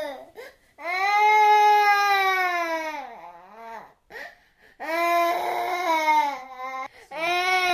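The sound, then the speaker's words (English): Young children crying loudly in queues waiting to be treated at the council-run Meborain Satellite Clinic during a disease outbreak: long, high wailing sobs broken by brief gasping pauses, with some background murmur between the cries. “Some of them were vomiting in the queues while others were crying.”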